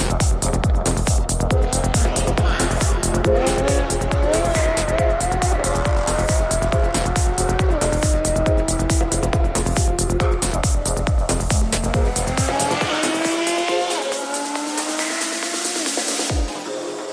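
An expensive, fast exotic sports car at an auto show idles with a loud, throbbing rumble, then revs up several times, its pitch climbing and falling, before cutting off abruptly near the end. There is no talking.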